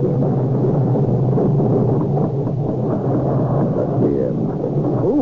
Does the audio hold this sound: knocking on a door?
no